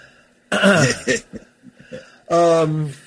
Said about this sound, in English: So just in case, that's the you know, if all of a sudden I start coughing